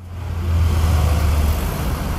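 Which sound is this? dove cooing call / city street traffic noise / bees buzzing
city street traffic noise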